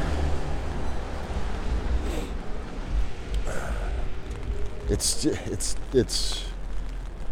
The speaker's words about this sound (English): It's kind of raining. It's more of a drizzle than a rain, really. But enough for me to break out the umbrella.